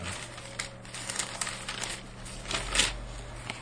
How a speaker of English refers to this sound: The rustling of pages.